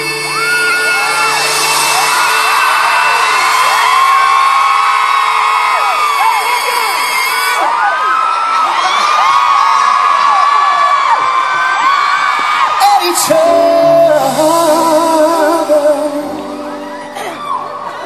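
A large crowd screams and shrieks continuously, many high voices overlapping in a loud, dense wall of sound with rising and falling wails, briefly dipping before surging again.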